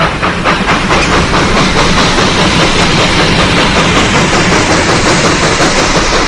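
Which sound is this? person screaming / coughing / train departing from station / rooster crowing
train departing from station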